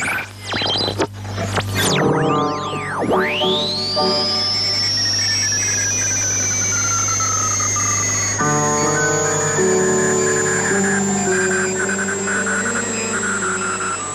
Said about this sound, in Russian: Слышите не кратковолновый шум и не помехи. Это звучит композиция немецких радиохудожников «Радио на радио», посвященная искусству радио.